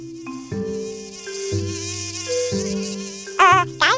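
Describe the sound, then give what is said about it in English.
A steady, buzzing mosquito-like whine with layered tones that shift pitch in steps, ending in a couple of louder, wavering warbles. No one speaks. “can we talk about just killing all the mosquitoes?”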